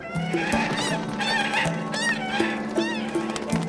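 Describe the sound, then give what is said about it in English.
Harsh, honking cries of a swan and an eagle fighting as the eagle chases the swan across the sky above a riverbank, repeated quickly and overlapping, with shrill rising squawks cutting through a steady, agitated clamor. Loud throughout, with no talking. “An eagle was chasing a swan across the sky.”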